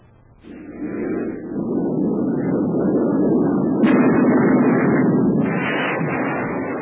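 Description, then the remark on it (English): A North American Aviation F-86 Sabre jet fighter, 37 feet long and weighing 8 tons with wings swept back at 35 degrees, roars in during actual combat in Korea after a brief quiet moment: a loud, steady, broad rushing drone that holds throughout, punctuated by a couple of sharper bursts, with no voices. “That was an F-86 Sabre jet fighter, actual combat in Korea.”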